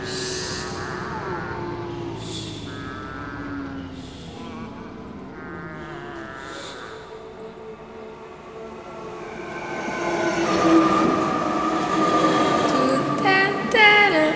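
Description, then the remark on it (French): An RER commuter train heading to Paris rolls along the rails with a steady rumble, building toward the end into a louder clatter with high metallic squeals from the wheels. “Elle prend le RER jusqu'à Paris où elle refait ses papiers à l'ambassade.”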